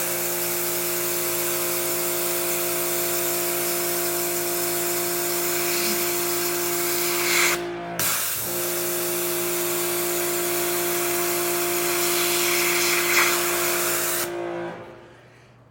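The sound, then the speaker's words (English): Pressurized water sprays in a steady, loud hiss over a droning motor hum as a surface is rinsed off, the water pressure doing the cleaning, cutting out briefly about halfway through, then resuming before stopping near the end. “You're letting the pressure of the water do it.”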